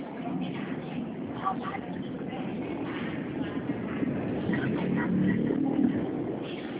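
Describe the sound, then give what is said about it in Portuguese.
Steady low engine rumble and road noise from inside a moving bus, continuous and fairly loud, with faint indistinct voices in the background and occasional rattles. “porque eu estou aqui no Tá. ônibus, não consigo.”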